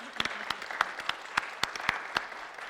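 A small audience applauds a panelist's introduction with light, scattered claps, sharp individual hand claps popping irregularly over a soft patter, fairly quiet overall, with no voices.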